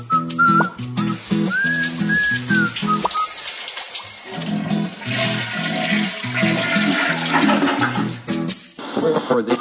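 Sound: gargling water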